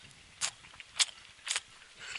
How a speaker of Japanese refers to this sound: ちょっとクチャ音でお楽しみいただければ。